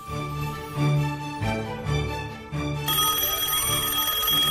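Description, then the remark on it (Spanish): A phone rings with a bright, continuous electronic trill, loud, sounding alone with no talking and growing denser and more shimmering toward the end. “mi teléfono!”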